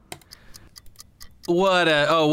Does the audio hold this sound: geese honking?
no